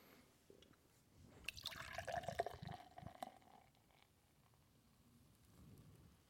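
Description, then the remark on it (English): Beer glugs from a can into a glass: a short, fairly loud splashing pour with a bubbling, fizzy rush lasting a couple of seconds, then settling into quiet hiss and fizz. “Now I have to pour this without getting...”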